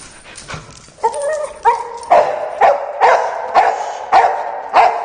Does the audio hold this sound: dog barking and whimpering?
yes